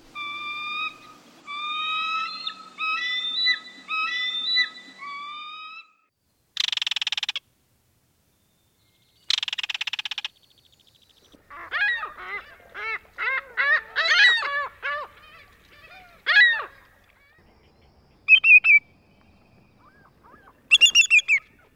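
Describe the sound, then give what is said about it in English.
A sequence of water-bird calls with no talking: a bald eagle's chattering notes, a belted kingfisher's harsh rattles, a ring-billed gull's squealing cries, then a greater yellowlegs' short, clear piercing whistles. “The bald eagle, belted kingfisher, ring-billed gull, and greater yellowlegs are among the many water-related birds that inhabit parts of Virginia during winter, including shorebirds, ducks, herons, and lots of others.”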